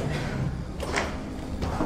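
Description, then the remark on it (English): A door opens with a couple of short scraping clicks over a steady low background rumble, with no one speaking. “See, Wall's going through the door because he's got his goggles.”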